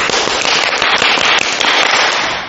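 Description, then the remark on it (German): A crowd imitates a monsoon thunderstorm, making a loud, dense roar of crackling and pattering noise that holds steady throughout and eases off slightly at the very end. “Super macht ihr das, das ist ein totales Gewitter hier, was hier losgebrochen ist.”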